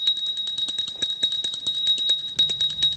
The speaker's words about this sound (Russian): Для вызова официанта в украинском ресторане «Гостиный двор», что на Подоле, на каждом столике стоит керамический колокольчик.